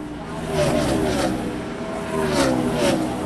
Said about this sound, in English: I stood near the press box at the Richmond International Raceway and waited for the NASCAR rapture.